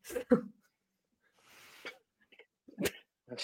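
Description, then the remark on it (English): Heavy, uneven breathing blown straight into a microphone by a man who can't breathe: a couple of sharp, harsh puffs, a longer hissing exhale, then more abrupt gusts, with no talking. “He can't breathe, so he's breathing really awkwardly into the microphone.”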